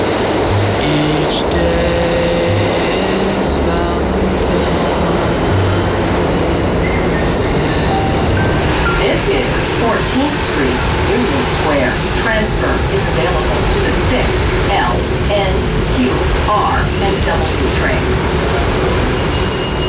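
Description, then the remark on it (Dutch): Loud, continuous subway station ambience at the Union Square subway station near Broadway at 5:45 in the morning: a train rumbles and screeches through, filling the space with heavy low roar, with scattered indistinct voices and echoing clatter throughout. “En ik ben op het metrostation Union Square.”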